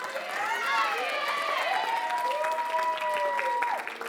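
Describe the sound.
A crowd applauds steadily for about four seconds for someone invited up to the front, a dense, even clatter of clapping with a few voices whooping and cheering on top.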